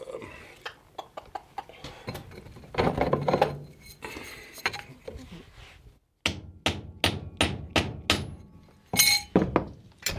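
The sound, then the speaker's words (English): A hammer strikes metal repeatedly while driving a knife blade into an antler handle during knife making: sharp ringing blows, at first scattered, then a steady series of about a dozen hard knocks, with faint background clatter. “So the antler goes in there, and then I proceed to whack the blade in with the hammer, which will...”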